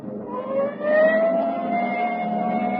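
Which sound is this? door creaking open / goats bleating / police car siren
police car siren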